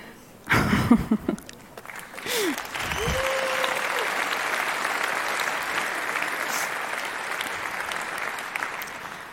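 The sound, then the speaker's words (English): An audience at a presentation bursts into applause after a short opening video, a dense, steady wash of clapping that holds at an even level for several seconds after a brief burst of sound at the start. “That applause goes to my amazing hacker who did this little video as a start to my presentation.”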